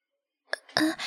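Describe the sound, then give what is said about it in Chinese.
A sudden, breathy cough: a short sharp burst followed by a longer, rougher hacking expulsion, moderately loud against silence, with no speech. “你没事吧？突然咳嗽，吓了我一跳啊。”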